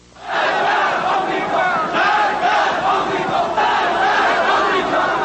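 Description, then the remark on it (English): A large crowd of people who rose up against the Shah in 1979 shouts in unison, a loud, dense roar of many voices rising and falling in rhythmic protest chants of 'Death to the Shah' and 'Death to the American Satan' that continue steadily throughout. “Death to the Shah, they shouted. Death to the American Satan.”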